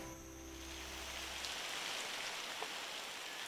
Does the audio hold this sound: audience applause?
no